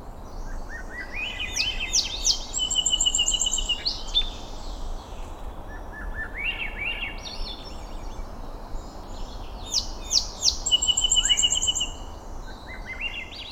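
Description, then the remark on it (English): A Swainson's thrush and a song sparrow sing outdoors, with two clear bursts of rising, fluty, spiraling phrases and sharp trills over a steady background hiss of wind or water. “In the following recording, Swainson's thrush shares the soundstage with a song sparrow.”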